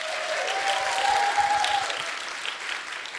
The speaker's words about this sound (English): Warm round of applause to both our teams.